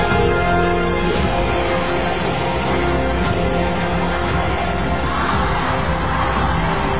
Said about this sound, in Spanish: Escuchen, porque esos gritos no van a parar.